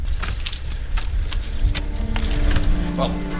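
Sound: bunch of keys jangling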